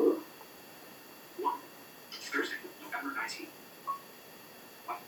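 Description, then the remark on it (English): A phone keypad is tapped to enter a passcode manually after Face ID fails to unlock the phone, with a handful of short, quiet electronic blips and taps spaced irregularly over a few seconds, alongside faint, indistinct murmuring. “While I put in my password manually.”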